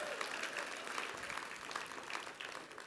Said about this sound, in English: Y'all weren't supposed to clap that loud right there.